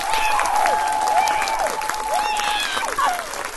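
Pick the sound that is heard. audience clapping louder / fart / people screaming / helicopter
audience clapping louder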